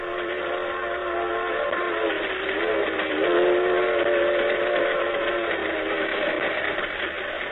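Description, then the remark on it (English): A steam train whistle sounds in long, sustained tones, stepping slightly in pitch partway through, over the steady, loud rumble and clatter of a rolling freight train. No one speaks. “My back feels broken riding on the floor of this empty box car.”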